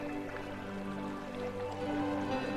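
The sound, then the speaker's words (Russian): Gentle, continuous burble of a small, clear mountain stream with soft trickling and dripping, steady and fairly quiet, blended with a sustained tonal hum in the background; no one speaks. “Прислушайтесь к мягкому журчанию этого потока.”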